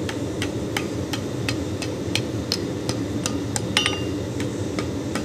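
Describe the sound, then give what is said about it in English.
Rapid, steady hammer blows ring out as a blacksmith hammers hot iron over the edge of an anvil to bend a curve, a dozen or so bright metallic strikes in even rhythm over a low rumbling background, moderately loud. “Just hammering it over the edge of the anvil, getting a nice curve.”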